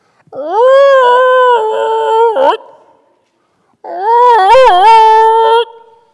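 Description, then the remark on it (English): A voice imitates an unfinished attic fan groaning in wind gusts and freezing temperatures: two long, loud, wavering howls, each about two seconds, separated by a short pause, with a warbling dip in the second. “A howling, obnoxious groan that more than a few times reverberated so loudly I could hear it in the basement.”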